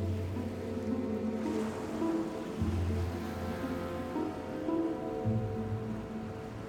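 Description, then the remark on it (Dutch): A steady, unbroken wash of sea waves and surf, fairly loud, with a low humming drone running underneath and no voices. “Poseidon, boos op Odysseus en Odysseus vaart naar huis over een zee die hem niet wil hebben.”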